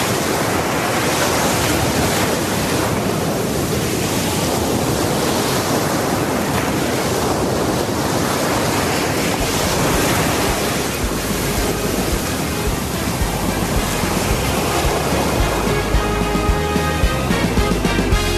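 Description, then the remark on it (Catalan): Steady surf rolls and breaks on a beach of the Costa Daurada, the Catalan coast of the province of Tarragona, a loud, continuous rushing wash with no voices, while faint music begins to rise beneath the waves in the latter half. “Com sona la Costa Daurada?”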